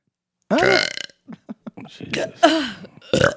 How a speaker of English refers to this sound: Oh, that is just. It's almost a fetish talent. Have you considered doing like belching contest?